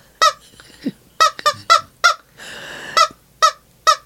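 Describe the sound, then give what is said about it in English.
A squeezed rubber chicken toy lets out a rapid series of loud, high, nasal squawks, about eight honking bursts in an uneven rhythm, with a longer wheezy, breathy squeal in the middle. “You're a good chicken squeezer.”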